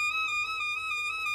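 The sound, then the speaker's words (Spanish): A musical trill played slowly: a bright, high-pitched instrumental tone wavering gently between neighbouring notes, steady and fairly loud throughout, with no voices. “También tocado a cámara lenta sería...”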